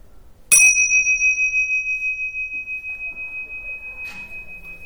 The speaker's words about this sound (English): And when you hear the bell, you can allow the sound of the bell to bring you out of the meditation.